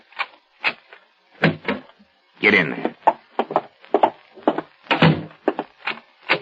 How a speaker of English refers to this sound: Open the other door